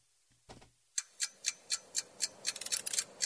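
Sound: clock ticking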